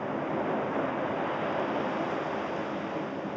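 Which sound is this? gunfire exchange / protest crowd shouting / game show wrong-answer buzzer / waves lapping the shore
waves lapping the shore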